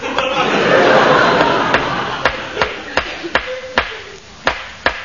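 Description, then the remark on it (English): Repeated sharp wooden knocks as cricket stumps are hammered into the ground of a potato patch, about eight or nine blows at an uneven but steady pace, over a faint wash of background noise. “Stop hammering those bits of wood in my potato patch.”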